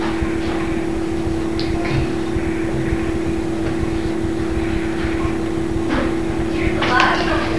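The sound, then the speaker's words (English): A steady, droning airplane engine hums overhead with a low rumble and a sustained tone, holding an even loudness throughout while faint voices murmur briefly near the end. “It's just airplane. It's an airplane, Mom.”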